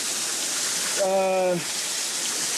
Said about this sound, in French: Bon alors, mais la pire pluie qui puisse arriver. On était en train de se protéger sous des rochers, mais là, ça devient dangereux, en fait. Il peut y avoir des glissements de terrain.